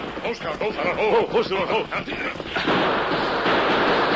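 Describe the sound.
Raised voices shout over scattered cracks, then a dense, continuous barrage of gunfire from surprised outlaws' guns, fired at the Lone Ranger and Tonto as they race on horseback toward a burning freight wagon, erupts and fills the remaining seconds with loud, rattling noise.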